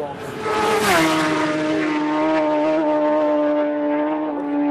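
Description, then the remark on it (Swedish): High-revving racing motorcycle engines howl past, recorded at the roadside at Bray Hill on the Isle of Man, pitch sweeping sharply down as they go by, then a steady loud engine whine continues, with a faint voice underneath. “Och ljudet i bakgrunden du hör nu på slutet, det är inte från en onboard-film från Isle of Man, väl från en vid sidan av vägen-inspelning som jag själv gjorde vid Bray Hill”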